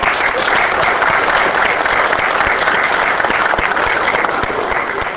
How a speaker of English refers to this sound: And maybe we could give them a round of applause at this point.